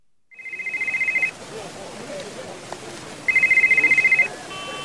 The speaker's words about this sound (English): Well, the phone rang, so I picked it up. Yes, well, that's my cell phone, and you found it.